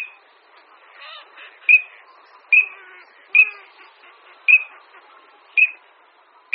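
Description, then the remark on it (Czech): A male common teal's clear, whistling krlik call repeats about six times at a steady, spaced rhythm, each note a short bright high whistle, with softer chattering bird sounds in between and no talking. “Jasně znějící hlas, který bychom mohli přepsat asi jako krlik, krlik, nebo připodobnit k nějakému pískání, patří samci.”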